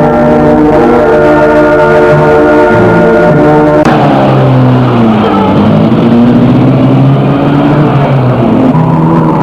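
A car engine roars loudly and steadily as the car drives very fast along an empty road on a dark, quiet night, its droning tone dipping abruptly partway through and then climbing again, with no voices.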